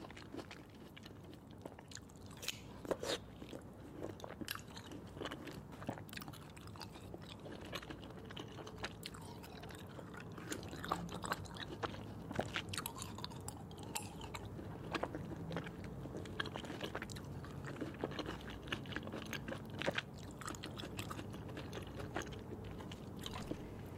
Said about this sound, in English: And this is a tropical fruits, specifically rambutan. This is the eating sound of rambutan right now. And we hope that you enjoy it.